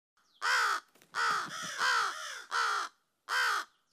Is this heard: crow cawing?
yes